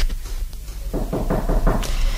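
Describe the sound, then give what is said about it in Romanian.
After someone opens the door to the hall, footsteps approach: five or six firm, evenly paced steps on a hard floor, growing slightly louder, with no voices present. “A deschis cineva ușa de la sală. Da. Se aud pași.”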